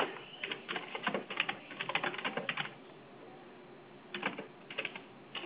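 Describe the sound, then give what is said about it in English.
Rapid keystrokes clatter on a computer keyboard as a note is typed, in a quick burst, pause for over a second, then resume in a few shorter bursts of clicking, clear. “Déjame poner esta nota aquí, espérate,”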